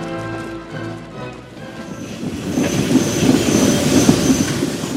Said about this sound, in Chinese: 从北面来的运兵的火车途经马里兰州